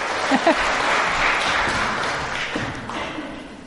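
A crowd applauds with steady, dense clapping that fills the room at a fairly loud level, a few sharper claps standing out near the start before it gradually thins.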